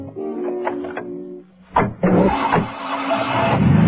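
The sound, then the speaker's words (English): A steady humming tone gives way to two sharp thuds like car doors slamming shut as two policemen jump into their car, then an engine roars and keeps revving loudly as the police car pulls away. “The two policemen run to their car and jump in.”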